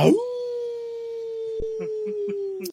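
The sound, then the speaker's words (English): A dog, Doggle the Stadia Community Pup, lets out one long, steady howl that rises quickly at the start and then holds a clear sustained pitch, fairly loud, with a few faint background noises underneath. “So that was Doggle, the Stadia Community Pup. I love it. weighing in there.”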